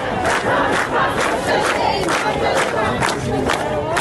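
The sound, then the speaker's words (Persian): A large crowd of hundreds of anti-government protesters shouts and chants together in loud, rhythmic bursts, many voices rising roughly every half second over a constant dense roar, at the 40th-day memorial ceremony for Shirin Alizadeh in Bagh-e Rezvan cemetery, Isfahan. “از جمله در گورستان باغ رضوان اصفهان، جایی که میزبان مراسم 40 شیرین علیزاده با حضور صدها تن از معترضان بود.”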